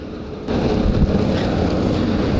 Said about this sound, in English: There goes the next road train of the day.